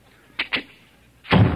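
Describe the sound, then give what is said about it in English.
Two quick latch clicks, then a man slams a heavy car door shut with a deep thud. No one speaks. “He's standing there slamming the door on the car so the neighbors can hear it.”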